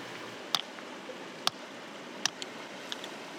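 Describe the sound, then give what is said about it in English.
Three sharp, hard knocks of a river stone on a flat rock being smashed with a rough chunk of limestone, spaced about a second apart, with a few lighter taps after, over a soft, steady outdoor hiss like flowing water. “She places the river stone onto a flat rock and smashes it with a rough chunk of limestone.”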